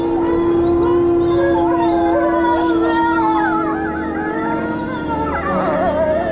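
A chorus of wolves howling together, several long wavering voices rising and falling over one another, loud and continuous for the whole stretch with no talking.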